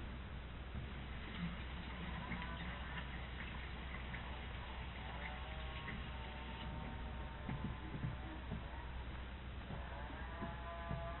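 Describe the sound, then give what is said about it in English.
Faint, steady ticking of an electric clock under a low electrical hum, with scattered quacking or squeaky sounds in the background and no one speaking. “What kind of clock do you use? It's an electric clock.”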